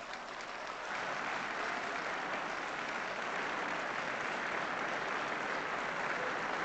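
Steady, dense applause from an audience, a continuous wash of many hands clapping at a fairly constant loudness throughout, with no speech over it.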